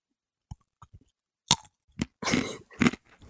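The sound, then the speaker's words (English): Crunchy chewing of a crisp potato ring snack, a Hula Hoop: a few sharp early bites, then denser, louder crunching bursts in an irregular rhythm, with no talking. “That was actually difficult, but I think it was a hula hoop. It was a hula hoop.”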